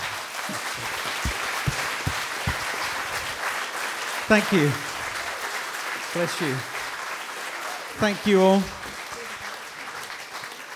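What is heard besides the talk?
audience applause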